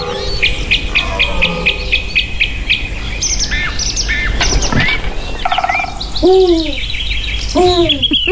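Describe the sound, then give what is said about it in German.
A Eurasian eagle-owl hoots twice near the end, clear against a busy forest dawn chorus of rapid, repeated songbird chirps and trills; no one speaks. “Ja, da war er noch, der Uhu.”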